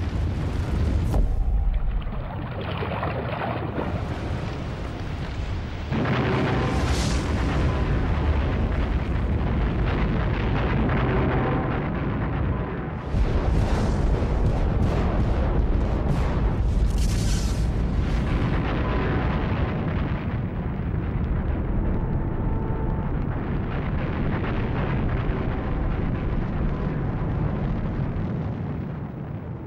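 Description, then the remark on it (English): The blast of a super volcano eruption at Yellowstone: a loud, sustained deep roar that barely lets up, punctuated by several heavier booming surges, overwhelming with no voices. “The blast of a super eruption would be awesome enough, but it's nothing compared to what would follow.”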